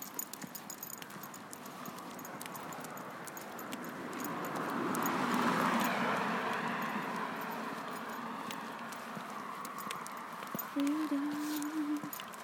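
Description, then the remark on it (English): A car approaches from behind along a quiet road at night, its engine and tyre noise swelling steadily to a broad whoosh, then slowly receding into the still night background. “There's a car coming though. That's behind you.”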